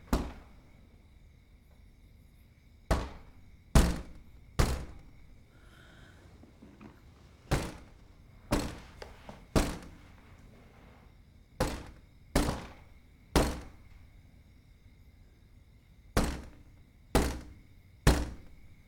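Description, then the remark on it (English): An intruder raps sharply on a bedroom window with the back of the hand, in four sets of three firm knocks, with short pauses between sets, over a faint steady hum. No one speaks. “Maddie gets slowly to her feet as the intruder raps on the window with the back of their hand.”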